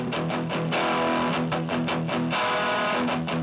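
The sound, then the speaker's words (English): Loud distorted electric guitar riff played on its own through a ProCo Rat distortion pedal into a tiny 5-watt Vox amp, thick saturated chords ringing out with a few sharp rhythmic strums between sustained notes. “I recorded through a Proko Rat, the best distortion pedal, into... I just have this tiny Vox amp.”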